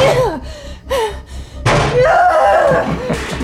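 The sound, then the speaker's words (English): A chair slams hard against fortified glass, two quick knocks and then one loud, heavy crash that rings on, with strained grunts and gasps mixed in. “Put down the chair. It's fortified glass. You can't break it.”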